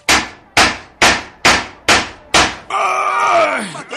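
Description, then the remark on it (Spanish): Six loud gunshots, fired at point-blank range by José de León Toral from behind General Álvaro Obregón's chair, ring out in quick, evenly spaced succession, each with a short sharp decay, followed immediately by a drawn-out groaning cry that falls in pitch. “El asesino aprovechó este instante, dio un paso a la izquierda y se situó atrás de la silla del general y le disparó 6 veces seguidas a quemarropa.”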